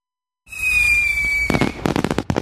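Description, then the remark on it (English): A rising whistle of a firework shell streaks upward, then a rapid burst of crackling explosions pops several times in quick succession, loud. “Many July 4th fireworks exhibits are canceled this year.”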